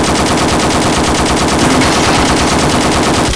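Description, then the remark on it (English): Loud, rapid automatic gunfire, shooting armor-piercing rounds at a lock, rattles off in a continuous burst of evenly spaced shots for about three seconds, with no voices over it. “Shoot the bloody lock.”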